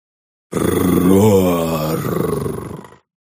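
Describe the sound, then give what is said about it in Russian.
The triumphant roar of a revived ancient creature: deep and drawn-out with a growling, rumbling texture, loud and sustained for about two and a half seconds before cutting off. No speech. “Торжественный рев возродившегося древнего существа разнес цветные храмовые витражи на тысячи смертоносных осколков.”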